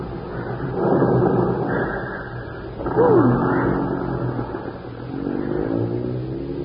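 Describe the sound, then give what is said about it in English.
A heavy bus engine rumbles, swelling into a loud rev with a rising whine before settling into a steady drone as it pulls away. “No, we're taking the bus.”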